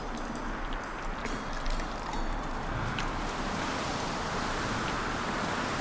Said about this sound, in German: Es regnet heftiger. Ein Sturm zieht auf.